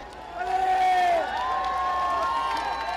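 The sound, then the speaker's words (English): A crowd of pilgrims cheers and calls out as the Pope greets them one by one, with rising and falling voices and shouts blending into a steady roar, scattered clapping underneath. “Cheering broke out as the Pope greeted them one by one before making his way up to the raised white stage where leaders of the largest churches and faith communities were seated.”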